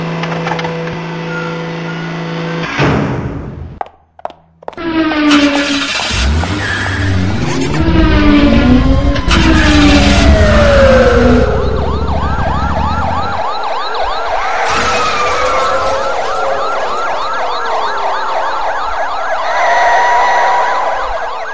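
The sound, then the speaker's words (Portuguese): Loud, dense city street traffic with engines and honking, as a wailing emergency siren sweeps up and down, rising and falling repeatedly over the steady roar of passing vehicles. “Será que em todas as cidades o trânsito é assim?”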